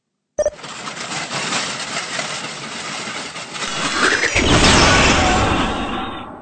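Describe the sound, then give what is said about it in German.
A cleaning robot called Super Sing, started with the press of a button, clicks on and whirs into a steady mechanical rattle, then a rising whine climbs into a louder, sustained roaring rush of noise as it blows up, with no voices. “Nur ein Knopfdruck und Super Sing fängt an zu putzen.”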